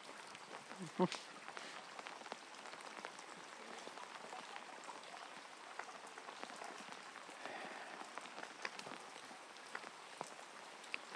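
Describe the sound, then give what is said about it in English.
Heavy rain pours down in a steady, dense hiss, with scattered louder drops spattering and a brief sharper knock near the start. “This is proper rain.”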